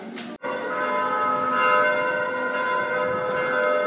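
Church bells ring in a dense, sustained peal at 7 in the evening that fills the scene at steady loudness, with a siren wailing faintly somewhere in the background behind them.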